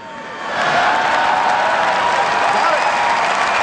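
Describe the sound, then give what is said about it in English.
A large convention audience breaks into applause that swells within the first half second, then holds as a dense, steady roar of clapping mixed with crowd voices, loud and continuous to the end. “I bet you never thought Hillary would get an applause at this convention.”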